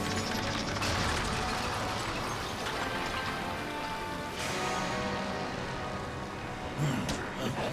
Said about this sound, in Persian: اون ماشین بخار رو روشن کرد.